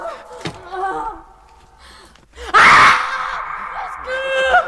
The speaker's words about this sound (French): Ces cris! Mais d'où viennent-ils? Là! En bas à droite!